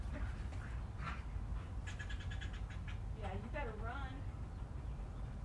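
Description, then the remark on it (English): A squeaky stuffed toy gets squeezed over and over, letting out a run of shrill, wavering squeaks in quick bursts over a steady background hiss, as a female dog attacks it. “If there were squirrels, this dog would really fuck them up. But it's a stuffed animal, and she's completely incapable of catching squirrels.”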